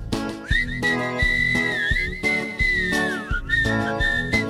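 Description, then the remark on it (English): A bright, sustained melodic whistle glides and warbles over a bouncy musical backing with steady rhythmic beats, a person whistling a playful tune imitating a walrus whistle. “Well, have you ever heard a walrus whistle?”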